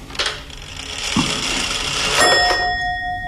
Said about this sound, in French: C'est suisse, c'est la pendule suisse, elle est vieille comme tout.